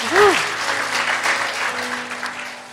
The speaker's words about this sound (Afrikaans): kom ons gee die Here sommer net 'n lekker hande klap vir die wat.